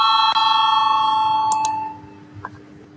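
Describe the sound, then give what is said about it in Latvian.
An electric voting bell in a parliament chamber rings steadily for about two seconds before a vote on a deputy's proposal. It has a bright sustained metallic tone with harmonics, then cuts off, leaving quiet with faint murmuring and a small knock. “Lūdzu, zvanu, balsosim par 14. deputātu, tā var iesniegt to priekšlikumu.”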